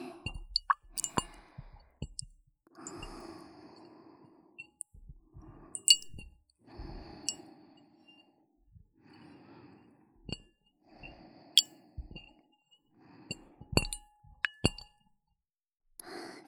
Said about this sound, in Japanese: 水の音って案外気持ちいいですよね。